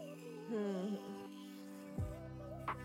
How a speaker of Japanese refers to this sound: 歯磨き粉をつけて、スイッチオン。この電動歯ブラシを考えた人、天才だよね。